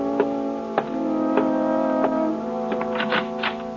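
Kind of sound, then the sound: household object, kitchen clock ticking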